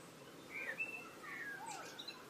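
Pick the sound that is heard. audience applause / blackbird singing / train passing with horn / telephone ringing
blackbird singing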